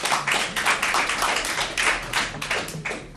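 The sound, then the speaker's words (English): A crowd applauds during a legislative committee hearing, with steady, dense clapping from many hands, a continuous patter of claps that holds at an even loudness for a few seconds with no voices over it. “Chairman, you should tell them not to applaud because we don't.”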